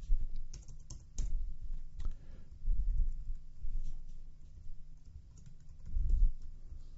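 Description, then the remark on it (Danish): Keys clack on a computer keyboard in short, irregular bursts of typing, with soft taps and a few sharper strokes, fairly quiet, with no voices, while adding a category to a wiki page. “Og den får en dobbelt kategori, vi skriver her.”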